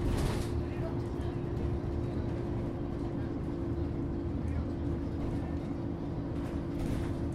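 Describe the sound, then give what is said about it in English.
Steady low engine rumble of a moving bus, droning evenly with a constant hum and no pauses, loud and unbroken throughout. “It doesn't have many stops, this bus, does it?”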